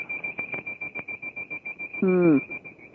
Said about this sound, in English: It was the alarm system in my house because I turned it off.